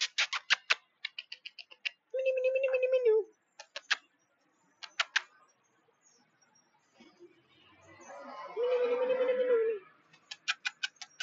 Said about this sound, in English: Ah, there's a black kitty kitty.